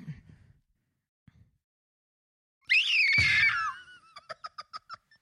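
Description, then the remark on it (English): A person imitates a pterodactyl as a talent in a mock American Idol audition, with a loud, shrill, rasping screech lasting about a second, followed by a quick series of six or seven sharp, high clicking or chattering bursts. “I can make a pterodactyl noise.”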